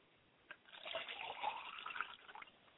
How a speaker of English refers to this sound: We like to pour libation to Akamare and acknowledge him, and we say Ashe.